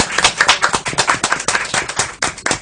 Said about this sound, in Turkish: Bir alkış başbakanımıza.